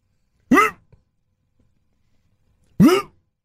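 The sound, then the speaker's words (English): A Rottweiler lets out two loud, sharp barks about two seconds apart, with silence in between and no one talking. “And no, I mean, for the dog's sake, this wasn't it. Poor Rottweiler.”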